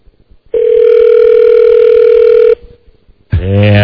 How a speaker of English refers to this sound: I'm trying the general manager now on his cell phone. I remember the number now. I hope this is him.